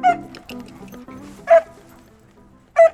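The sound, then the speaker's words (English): A puppy, a dog named Gio, lets out three sharp, high-pitched yips, spaced roughly a second and a half apart, loud, with a low steady background hum between them. “Gio, come here, puppy. Come on, puppy.”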